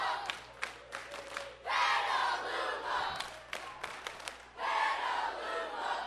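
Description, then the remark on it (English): A crowd of friends and supporters watching at Petaluma's downtown Boulevard Cinemas erupts in loud cheering and whooping as the Petaluma National All-Stars win their first Little League World Series game, with sharp claps and shouts, swelling in two big waves of roaring excitement. No one speaks clearly. “Yesterday afternoon, the Petaluma National All-Stars won their first game of the Little League World Series to the rousing delight of friends and supporters.”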